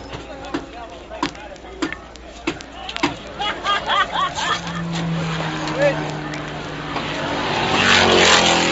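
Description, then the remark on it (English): Von Trips's racing car rolls into the pit with its engine burbling and popping, sharp mechanical clatter and background voices around it, before the motor swells into a louder, rising roar near the end. “Von Trips into the pit, still in trouble, but retaining his sense of humor.”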